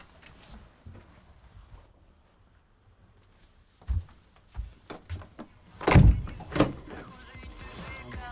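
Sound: door being closed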